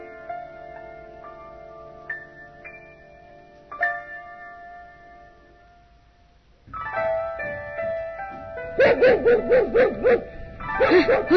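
A dog barks loudly in a rapid, insistent series of yaps during the second half, following a stretch of sustained, quiet tonal music. No one speaks.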